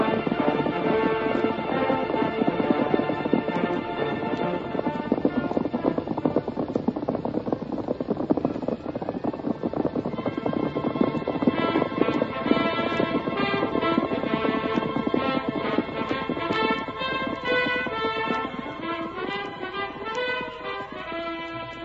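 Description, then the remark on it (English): Rapid, steady hoofbeats of galloping horses, one of them white, traveling fast and getting farther away, drum along throughout, blended with a continuous musical backing that swells and shifts, with no voices heard. “They're traveling fast. They're getting further away all the time. Keep after them.”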